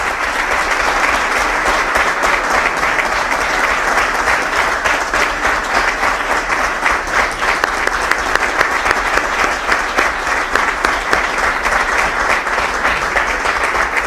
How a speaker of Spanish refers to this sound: Y pido y aprovecho este acto para que le demos un fuerte aplauso y que se lo lleve.